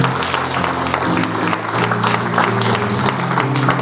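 Sustained, loud applause from a large audience at the end of a theatre performance, a dense steady clatter of many hands clapping without pause, with a faint murmur of crowd underneath.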